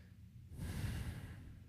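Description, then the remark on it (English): A single long, deep breath taken as a deep breathing exercise, with an airy rush that swells after a brief quiet moment and holds steadily before easing slightly. No one speaks. “What you heard just there was me doing deep breathing exercises.”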